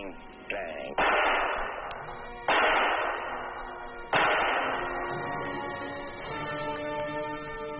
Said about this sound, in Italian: Risuonarono quattro spari. Avrebbe potuto essere un petardo molto grosso o una piccola carica esplosiva. Ma al secondo sapete che cosa è accaduto. Poi è venuto il terzo sparo. Erano molto ben ritmati. Da, da, da.